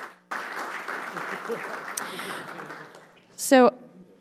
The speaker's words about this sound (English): All right, let's give these guys a round of applause as they make their way to the dais.